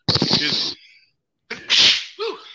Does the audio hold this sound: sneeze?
yes